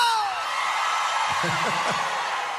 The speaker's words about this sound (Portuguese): Eu quero ouvir o grito dos apaixonados.